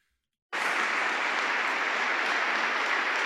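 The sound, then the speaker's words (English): An audience of women and men at Benedictine College bursts into sudden, sustained applause for a speaker, staying loud and dense throughout, with scattered cheers and shouts, including many women's voices, blended into the clapping. “Like his audience, which is full of women and men, they're applauding.”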